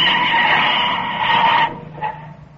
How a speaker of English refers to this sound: A few miles out of San Rafael, the convict car turns off the highway toward the Black Point cutoff. A mile down the road, the cutoff drawbridge swings open with exasperating slowness. They pull up with a burning screech of brakes.